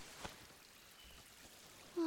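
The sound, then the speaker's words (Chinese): A soft, steady babbling of stream water runs throughout, faint, with a brief splash near the start and a short tone right at the end. “这小溪真美，在这里洗澡吧。”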